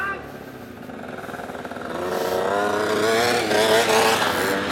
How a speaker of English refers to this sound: Scooter boys arrived. I'm guessing driving on your scooter into the forest is a thing.